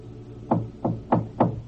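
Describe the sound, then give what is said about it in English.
Four firm knocks on the door of Carson McVicker's office at the Wheelock Hospital, evenly paced and fairly loud, each a short hollow thud with a quick decay, with no voices. “Jim Brent, unaware of the strange events and discoveries in Paris, has reached the door of Carson McVicker's office.”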